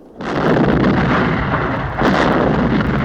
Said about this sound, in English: The ignited cannons bombard Howard's ship. Firing on us now! Hey, don't fire! We're on your side! The cannon fire is audible on the Venus.